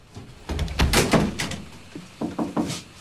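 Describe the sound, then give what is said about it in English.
At dusk, the front door of a house opens with a rattle and a series of clunks as a man lets himself in, followed by a few quieter thuds and shuffles as he steps inside; no one speaks. “He lets himself in.”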